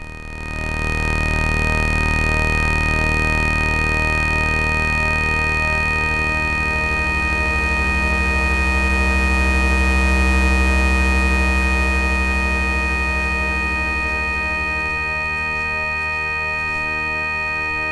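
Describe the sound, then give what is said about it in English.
A loud, sustained synthesizer drone of stacked steady tones, with a deep low rumble and a thin high whine, swelling slightly midway and slowly shifting its low texture, with no voices. “This drone.”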